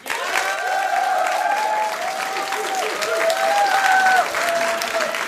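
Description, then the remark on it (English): A crowd claps steadily for several seconds, a dense, loud wash of applause with whoops and cheering voices rising over it before it tapers off, as the audience votes yes by applause. “Should we ask the audience? Yeah. That sounds nice. A round of applause for yes, boning her.”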